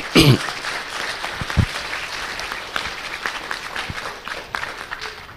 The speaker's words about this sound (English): So a wee round of applause again for all the prizes.